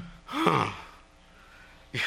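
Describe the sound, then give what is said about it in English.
A voice imitates a crowd's astonished gasp: a sharp, breathy intake rising in pitch, followed by a pause and a second brief gasping breath at the end. “I can almost hear the crowd go,”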